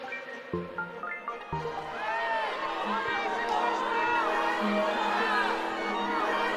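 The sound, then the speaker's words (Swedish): A large audience in uproar at a Russian ballet premiere in the newly built Théâtre des Champs-Élysées in Paris, many voices shouting and jeering over each other in a dense, continuous roar that swells louder after a couple of abrupt thumps near the start. “Det är kaos på nybyggda Théâtre des Champs-Élysées i Paris. Publiken blir mer och mer uppjagad.”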